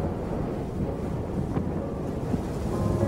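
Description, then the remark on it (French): Steady, blustery cold wind roars across the microphone with a dense low rumble, constant, with brief gusts swelling now and then and no voices. “Le vent me glace le visage.”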